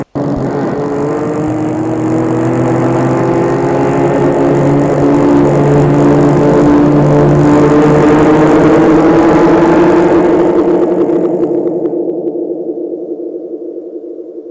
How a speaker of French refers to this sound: Et la voiture file, file.